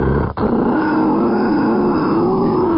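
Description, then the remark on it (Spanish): A person growls and grunts in a deep, rough, continuous voice, imitating a dinosaur to say good morning, loud with a brief break near the start. “¿Qué les dice buenos días con gruñidos o gemidos o no sé qué de dinosaurio?”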